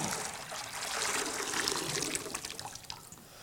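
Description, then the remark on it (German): Water pours steadily into a baptismal bowl for a baptism for a few seconds, a continuous splashing trickle that thins into scattered drips toward the end, with no voices. “So viel Wasser braucht man zum Taufen.”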